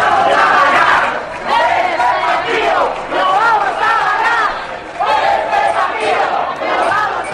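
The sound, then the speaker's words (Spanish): Loud, sustained cheering from many people on balconies across Spain in support of the national team, voices shouting and chanting over one another, rising and falling in waves with clapping mixed into the din. “Y atención, porque se oye, escuchen, el aliento de todos los balcones. Los aplausos de todo un país que está detrás de nuestro equipo.”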